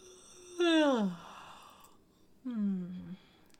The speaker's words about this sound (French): Ok, et aussi une autre exploration possible en rapport avec la respiration, c'est les bâillements et le fait de soupirer. Donc vous pouvez faire ça plusieurs fois pour relâcher les tensions. Ouais. Ou des bâillements, vous vous forcez à bâiller.